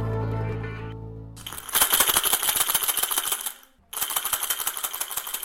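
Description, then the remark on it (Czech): A ball for blind football rattles with a dense, jingly metallic clatter of rapid clicks, in two loud bursts split by a short pause, after a low humming tone fades out. “Věřte, nevěřte, je to tak, je to fotbalový míč, který používají nevidomí”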